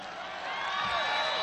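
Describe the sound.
A crowd applauds and cheers for a blues musician, a dense wash of clapping with whoops and shouting voices that swells a little after the start and then holds steady and loud.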